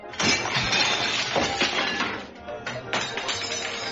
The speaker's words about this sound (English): Napoleon hurls the plate of asparagus against the wall with such force, it shatters, frightening Hammurabi and Elizabeth.